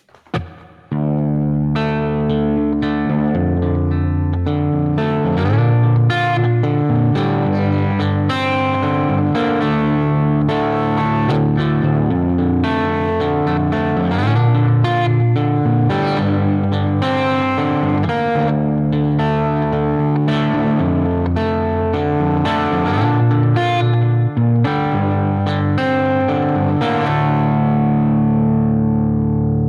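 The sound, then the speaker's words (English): A Gres Mendocino electric guitar with flat wound 12s, slightly out of tune, plays continuously through a Princeton-style amp preset built in Tonex, clean-to-slightly-driven with a little reverb, strummed chords and notes ringing out steadily, with no talking. “So for Tonex, I built like a Princeton style preset and added a little reverb on the end.”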